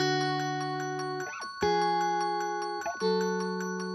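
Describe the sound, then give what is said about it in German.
A glockenspiel melody of bright, evenly spaced struck notes rings over sustained low tones, with the harmony shifting twice across the passage. It is clear, with no voices. “Das war ursprünglich auf jeden Fall eine Linie, die auf dem Glockenspiel hängt.”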